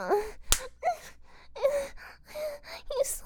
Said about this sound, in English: He slapped me.